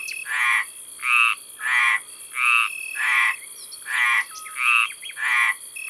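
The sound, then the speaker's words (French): Two male stripeless tree frogs croak in a pond near a village in southern France at 11 pm on 10 June, a steady, evenly spaced series of about eight loud, raspy calls, with a faint high insect-like hiss running underneath and no voices. “Ce sont des rainettes méridionales.”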